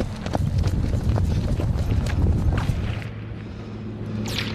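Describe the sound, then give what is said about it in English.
Sharp, dry snaps of a sniper's bullets passing overhead crack out irregularly, a dozen or more in quick succession, over a constant low rumble and clatter. “You can hear the snap of the bullets.”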